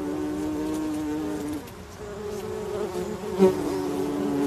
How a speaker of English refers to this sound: Now, bees are our most effective pollinators. They're vital to our survival on the planet. And there are few sounds as distinctive or as welcome as the sunny buzz of the bumblebee.